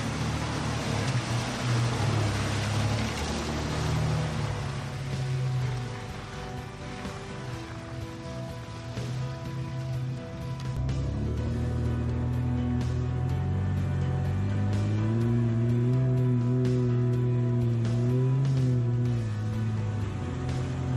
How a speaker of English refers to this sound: I helped him dip his toe into it, literally, by showing him how easy it was to simply drive right through the water.